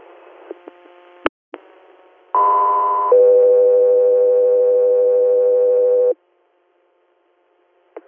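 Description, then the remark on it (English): A two-tone dispatch paging alert over a radio channel for unit Echo 3: a brief higher steady tone, then a longer lower tone holding for about three seconds, framed by faint static and a few clicks of keying. “Echo 3, stand by for tones.”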